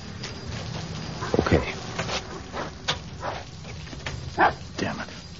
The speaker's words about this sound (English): Stop barking, slug, for God's sake.